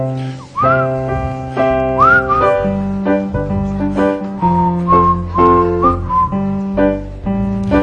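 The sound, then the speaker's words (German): A human whistles a tune with sliding, pure high notes that rise and fall, carried over a steady, full-sounding instrumental accompaniment playing sustained chords throughout. “Und ich zeige euch jetzt, wie man pfeift. Ja, das geht dann so.”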